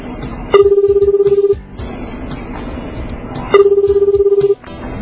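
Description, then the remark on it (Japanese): A telephone ringback tone of a call placed during a radio program sounds twice, each a steady, fluttering one-second buzz with a pause of about two seconds between them, fairly loud over a faint, muffled background. “はい、じゃあ電話の方をお願いします。”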